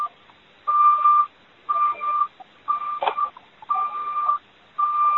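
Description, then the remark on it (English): A phone beeps in a steady repeating pattern, five or six evenly spaced electronic tones, each about half a second long, fairly loud and clear, with no talking. “Could whoever has the beeping mute their phone?”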